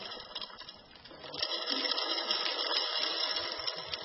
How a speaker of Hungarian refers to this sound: Folytatjuk a kísérletet. Apróbb köveket töltünk bele. Ugye, hogy nincs tele az edény?